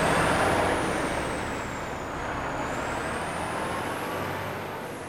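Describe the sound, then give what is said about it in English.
A big rig truck lets out a loud, sustained hiss of air brakes that carries steadily for several seconds, with a faint high whine wavering over the rushing air. No one speaks. “The view from high up in a big rig can't be beat. So pick a truck, buckle your seatbelt, and let's go.”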